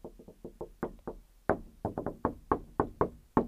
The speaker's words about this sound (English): Just knocking on wood there. Just knocking on the wood.